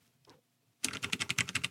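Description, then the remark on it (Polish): Rapid clatter of keys on a computer keyboard, a quick burst of evenly spaced clicks starting abruptly after a brief faint rustle and near silence. “Więc klawiatura podcastówka jest cały czas blisko tutaj razem z nami”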